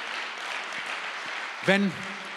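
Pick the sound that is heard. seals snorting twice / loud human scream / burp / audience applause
audience applause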